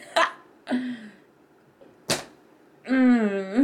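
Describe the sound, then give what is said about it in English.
A few sharp smacks of a hand slapping the skin of a buttock, the loudest a crisp crack midway, followed by a drawn-out vocal moan-like sound. “Squeezing it like this. Slapping it.”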